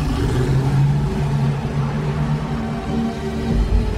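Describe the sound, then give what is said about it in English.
A car engine rumbles steadily as the driver backs out of a parking space and drives off, a low continuous hum that swells slightly toward the end, with no voices. “He backs out of his parking space and drives off.”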